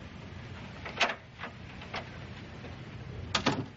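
knocking on a door

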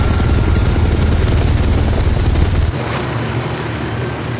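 helicopter flying

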